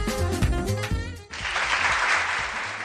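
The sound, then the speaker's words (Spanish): A short burst of music with sustained tones cuts off abruptly and gives way to steady, dense clapping from a crowd, a loud, even wash of applause that carries through to the end. “Y este aplauso porque el Festival de Divulgación Científica Python of Science vuelve a ser protagonista en Valladolid los días 22, 23 y 24 de mayo en su octava edición”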